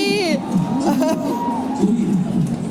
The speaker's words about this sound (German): Vielleicht kreische ich mal kurz 5 Sekunden. Ich vielleicht auch. Aber dann ist auch gut.